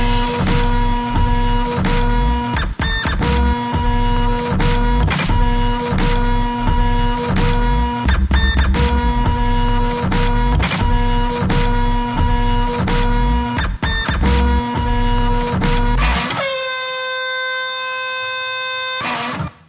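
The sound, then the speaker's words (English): A home printer runs loud, its mechanism clattering and thumping in a steady repeating rhythm, then settling into a sustained high-pitched electronic whine near the end. No one speaks. “This is sampling up the home printer purely for drum and bass kicks.”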